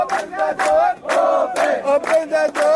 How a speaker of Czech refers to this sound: Kao i dan ranije, uzvikuju otvorite kapiju.